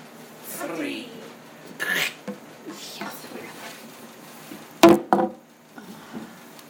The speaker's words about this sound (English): Oh, I think I got it. Nope, I didn't. How many engineers does it take to open a soda bottle?